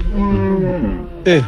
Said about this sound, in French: C'est ces vaches-là qui arrivent, là? Ouais.